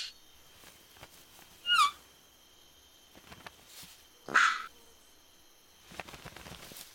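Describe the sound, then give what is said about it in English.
A bird named McGregor imitates a dog's bark to scare away a pig: two short, sharp barking calls a few seconds apart, rising loudly over a steady, high buzz of insects. “As McGregor barks, the pig runs away. There's more to this mimicry than scaring pigs.”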